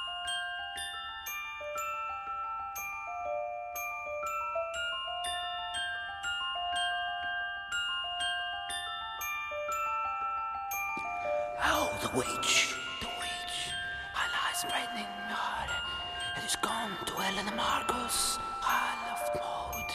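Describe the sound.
A delicate, repeating celesta and bell melody chimes alone at first, then dense whispering voices and harsh, noisy layers crowd in around the halfway point, making it eerie and unsettling.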